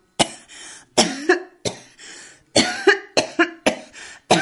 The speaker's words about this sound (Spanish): Esta tos que no me deja hablar.